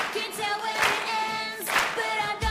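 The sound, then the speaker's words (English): Sharpay, the cast and the conductor of a stage musical clap along with the audience in steady time to a loud, upbeat musical number, the sharp bursts of clapping landing roughly once a second over sustained melodic tones. “As Sharpay and the cast clap, the conductor does the same and rouses the audience to join in.”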